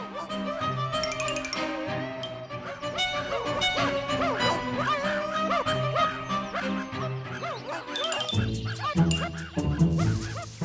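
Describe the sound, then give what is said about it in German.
A pack of four hunting dogs with a hunter bays and barks almost without pause, several voices overlapping in loud, excited bursts, with a fresh surge of barking near the end. “Indes kam ein Jäger mit 4 Hunden daher.”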